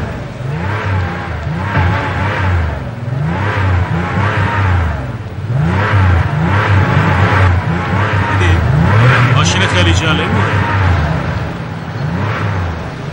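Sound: car engine revving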